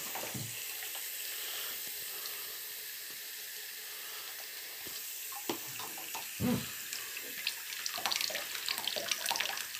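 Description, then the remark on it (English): Hot water runs steadily from a tap into a bath to top it up, a constant hissing gush of water with occasional splashes and knocks partway through, fairly loud, with no voices. “So that means I can now have the hot water running to top up the bath and to have it sort of go back towards the edge of the bath and down the sides of the bath and to sort of slowly sort of add more hot water to the bath.”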